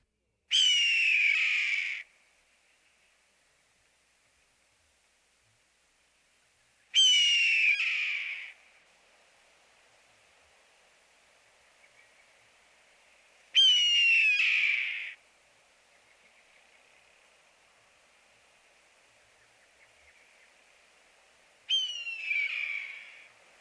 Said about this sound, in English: Note that the red-tail's call is usually one long slurred syllable, gear.